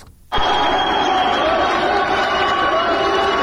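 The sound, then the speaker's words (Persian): A loud crowd roar bursts in suddenly after a brief silence and holds steady, a dense wash of cheering voices with clapping mixed in throughout, cheering Iranian strongwoman Giti Mousavi at Mehrabad Airport, Tehran, as she pulls a 17-tonne 750-kilogram airplane 5 metres 17 centimetres in 38 seconds for a record. “صدای تشویق قوی ترین زن ایرانی است، گیتی موسوی، زمانی که نام خود را در تاریخ ورزش جهان جاودانه کرد.”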